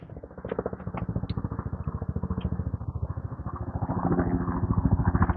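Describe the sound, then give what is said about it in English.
An Air Life medical helicopter flies overhead, its rotor beating out a rapid, steady thudding with a low engine drone beneath. The pulsing stays continuous and grows a little louder toward the end. “Air life chopper lounging around, training in familiarization flight, probably.”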